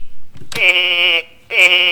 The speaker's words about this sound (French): Ceci est un mouton.